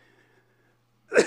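After a second of near silence, a single short, harsh throat clearing bursts out loud at the very end, with no talking.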